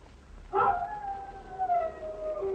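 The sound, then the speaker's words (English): A dog named Barnabas lets out a single long howl that starts with a sharp, loud rise and then holds a steady, mournful tone, sliding gradually lower in pitch as it trails on. No one speaks. “When Barnabas howls, 'tis a bitter cold that spills from the moors.”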